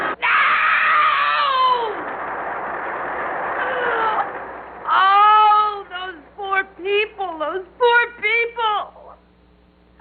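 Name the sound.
people screaming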